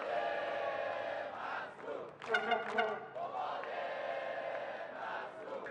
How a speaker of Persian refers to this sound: قباد مسرور رو میبینید که در گوشه تصویر به هوادارانش که مشغول تشویق او هستن تعظیم میکنه. حالا این تشویق ها خودجوشه یا از جایی که سرچشمه میگیره؟